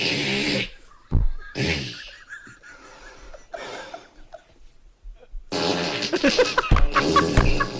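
A long run of farting noises, one blurting burst after another with brief gaps, fairly loud, with some breathy snorting mixed in and no talking.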